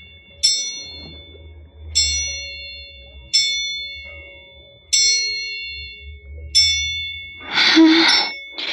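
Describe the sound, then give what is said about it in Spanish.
An old lighthouse clock strikes ten at night with slow, evenly spaced chimes, each ringing out and fading before the next, with a low hum underneath and a brief rough burst of noise near the end. “En este instante, el viejo reloj del faro deja escapar 10 lánguidas campanadas.”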